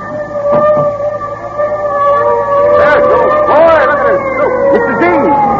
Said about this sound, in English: Listen. The fire engine. Hey, I gotta see it.